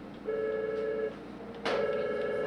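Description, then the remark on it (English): A telephone rings twice in steady electronic bursts, the second ring starting with a sharp click, over a low murmur of background noise with no one speaking, in Amy's pizzeria, a Latino-owned pizza shop in Hatboro, Pennsylvania, that is flooded with orders. “The phone in Amy's pizzeria rings every few minutes.”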